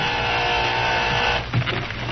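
door buzzer

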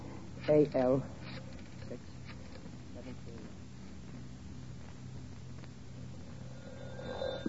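telephone ringing

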